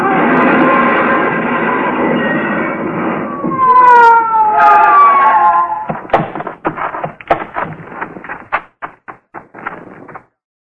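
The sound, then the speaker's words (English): A loud police car siren wails steadily as the police car chases another car along a curving road, then its pitch slides downward as it winds down, followed by a series of sharp metallic clanks and knocks. “Whoever it was paid no attention to our siren, but we pulled closer, hugging the curves by using the whole road.”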